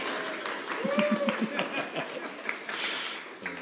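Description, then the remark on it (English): A Presbyterian church audience claps together after a scripture reading in a dense, steady burst of applause lasting a few seconds, with scattered voices and murmurs mixed in beneath the clapping. “If we weren't Presbyterian and we believed in clapping, I would say we should clap. Let's clap.”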